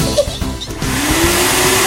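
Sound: vacuum cleaner running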